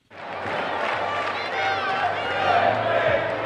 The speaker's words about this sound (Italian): Partiamo dal finale, cori, fumogeni e applausi dalla curva per una sera sistemata in tribuna, incitano prima squadra maschile e femminile.